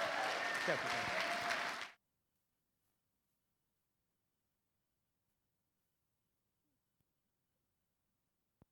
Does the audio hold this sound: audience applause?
yes